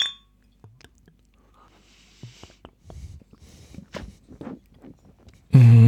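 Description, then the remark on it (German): Glasses clink together a few times in a toast, sharp taps with a brief ringing tone, among soft handling and rustling noises, ending in a sudden loud thump. “Dann sag ich mal Prost. Jo, Prost.”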